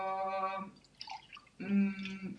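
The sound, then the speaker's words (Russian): Liquid pours into a container in two short bursts with a steady, ringing tone, separated by a moment of bubbly gurgling and dripping; fairly quiet. “Наливай.”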